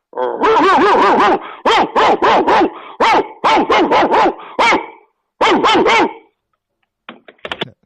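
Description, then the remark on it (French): A dog barks loudly in a rapid, excited string of yaps, with a brief pause midway, then the barking stops and a few faint clicks follow. “M'gen chien kap suivi, bon Dieu.”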